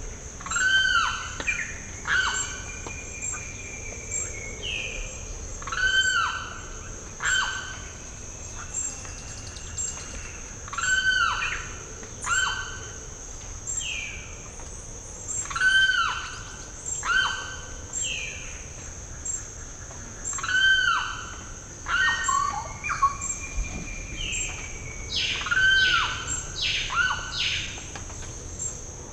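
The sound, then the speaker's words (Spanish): Repeated bursts of sharp, descending calls of a mostly brown raptor with a white band on its tail and two white stripes on its wings in flight come in clusters of three or four every few seconds, over a constant high, steady insect drone. “Esa es una rapaz, es café en general, tiene una línea blanca en la cola y tiene en el vuelo se le dieron dos líneas blancas en las alas.”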